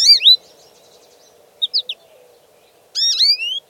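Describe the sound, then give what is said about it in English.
Hawaiian honeycreeper calls: a quick burst of high, harmonic downslurred whistles, then three short clipped notes, and finally a longer buzzy rising-and-falling call, all clear over a soft low background hum. “Such a journey probably started the history of the birds we know today as Hawaiian honeycreepers.”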